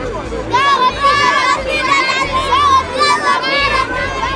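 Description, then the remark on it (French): A crowd of children shouting and calling out together in a temple, their high voices overlapping in a loud, continuous clamor with rising and falling cries throughout. “Il voit aussi les enfants qui crient dans le temple.”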